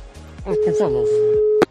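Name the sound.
telephone dialing and ringing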